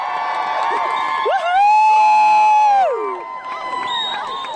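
A large crowd at a protest shouts and cheers together in response to a speech, swelling into a loud, sustained roar of voices before easing back into a restless murmur with scattered calls.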